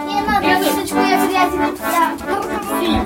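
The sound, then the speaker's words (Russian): Several children's voices chatter and overlap continuously, moderately loud, with no single speaker standing out, in the corridors of a library for the blind in Voronezh, Russia, during an arts night event. “В коридорах слышны детские голоса, мелькают яркие народные костюмы.”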